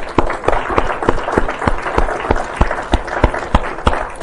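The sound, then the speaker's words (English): A church audience applauds steadily for some men, a dense wash of many hands clapping with a few sharper, louder claps standing out throughout. “And let's give them a round of applause.”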